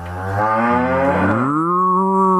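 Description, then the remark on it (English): A person imitates a cow with a long, loud "moo," a sustained droning vocal tone that swoops upward in pitch partway through and holds to the end. “And can I hear your moo?”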